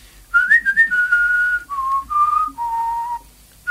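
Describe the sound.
A lone person whistles a spaghetti western film theme melody, imitating the famous whistle of the film's score, clear: a few quick rising notes, then long held tones that slide and step downward, with no talking.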